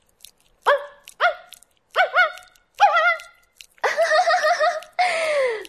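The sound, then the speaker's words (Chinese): A person imitates a dog, giving a string of short, yelping barks that build into longer, drawn-out whining barks, loud, with brief pauses between them. “没错，就是这样叫。你这条发情的公狗啊”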